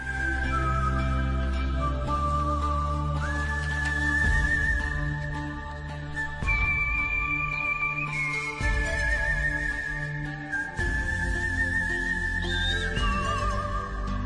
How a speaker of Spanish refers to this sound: ¿Te gusta esta banda sonora? Sí. Sí, ¿verdad? Preciosa. Hombre, lo de los silbiditos me da a mí ponerme a silbar y luego me regañan en casa.